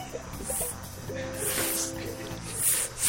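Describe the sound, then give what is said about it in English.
A person imitates a snake, making three short, airy hissing sprays that send a very fine mist into the air, with some low voiced humming between the bursts. “For the people at home, it's a very fine mist. Very fine mist in the air.”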